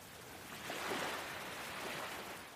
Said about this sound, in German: Die Wellen kommen und gehen, einströmen, ausströmen. Dein Atem verbindet sich ganz natürlich mit diesem Rhythmus des Meeres.